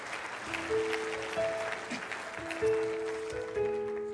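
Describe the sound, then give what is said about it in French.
An audience applauds steadily in a dense, continuous wash of clapping, with sustained musical tones and scattered voices beneath, the level swelling briefly midway and near the end. “Quelqu'un devrait dire amen et applaudir avec moi les possibilités.”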